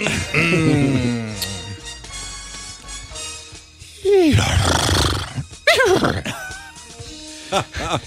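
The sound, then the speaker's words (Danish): A person imitates a horse's whinny with a wavering, trilling voice, then follows with a few loud, strained vocal bursts and gasps. The sounds are fairly loud, with no clear speech. “Jeg mestrer ikke vrinske som dig.”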